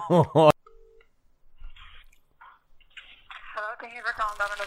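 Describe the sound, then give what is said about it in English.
A brief steady electronic tone on a phone line during a call to a Domino's pizza shop to place a pickup order, followed by faint clicks and then a thin, tinny voice speaking through the receiver. “The phone line's not fucked.”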